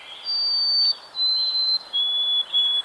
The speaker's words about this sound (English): Take, for example, the white-throated sparrow, Zonotrichia albicaulis.